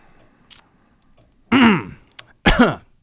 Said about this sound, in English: Hey, that was both a let me clear my throat because I really need to because I'm losing my voice.